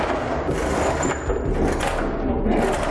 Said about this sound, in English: The laundromat made so much noise that it would cover up the sound coming from the basement as the machines were roaring away making those 9mm bullets. Just listen to this old laundry machine.